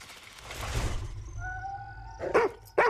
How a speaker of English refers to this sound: He barks at the tree line. He glances frantically at the woods.